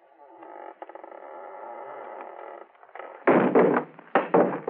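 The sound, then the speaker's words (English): An unlocked door to an unlit room is shoved open: a long, steady creaking groan, then two heavy scraping thumps as it gives way and swings. No voices are heard. “Now listen, I'm going to shove the door open, shine my light in.”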